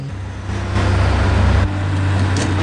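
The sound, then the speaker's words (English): A heavy lorry rumbles past on a road under a clear blue sky with a deep, steady engine drone, followed by three black cars, the noise swelling loud before easing slightly. “Then a lorry drives down the road beneath a clear blue sky, followed by the three black cars.”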